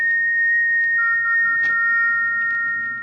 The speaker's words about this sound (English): It's come again. That whistle.